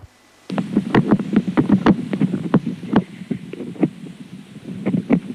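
Unborn guinea pig pups grinding their teeth inside their mother's belly: a steady muffled low rumble carrying a rapid, irregular series of sharp little clicks and scrapes, about a dozen and a half, with no talking.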